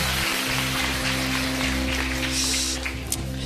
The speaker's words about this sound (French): Et est-ce que les adultes, je peux vous entendre applaudir très fort, voir si vous applaudissez plus fort que les enfants? Oh là là!